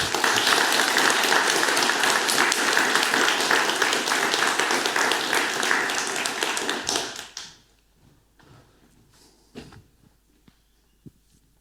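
A crowd applauds steadily in a dense, loud wash of clapping for about seven seconds, then it quickly dies away, leaving a few faint scattered taps and knocks. The applause thanks the speaker after a talk.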